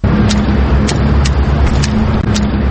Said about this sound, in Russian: Это стук белой трости. Людей в темных очках с белой тросточкой, которой они ощупывают тротуар, чаще всего можно встретить в пригороде Тбилиси, Квемопоничала.